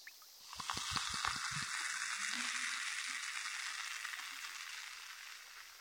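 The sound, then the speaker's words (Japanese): A dense, steady fizzing crackle from a cotton swab soaked in carbonated water, used for cleaning, with a few soft low taps near the start; fairly quiet, with no talking. “炭酸綿棒にしてみましょうか。パチパチして、音も感触も気持ちいいんじゃないかなって。”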